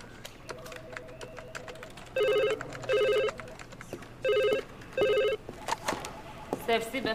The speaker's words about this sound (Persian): تلفن با شما کار داره.